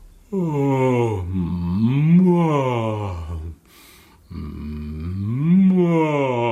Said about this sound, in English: To do that, you can, like, it's like almost doing a yawn. And in fact, yawning is the next part of our articulation warm up. So we'll add it in with the hum.